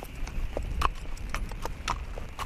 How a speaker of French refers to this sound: Ah, voilà le cheval. Bonjour. Bonjour cheval. Salut.